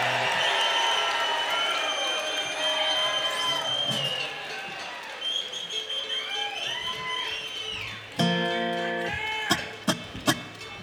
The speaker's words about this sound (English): Folks, keep that round of applause going